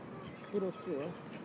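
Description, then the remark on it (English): Two short, nasal quacking calls from ducks, close together, sounding over steady outdoor background noise. “All these birds are very noisy today, aren't they?”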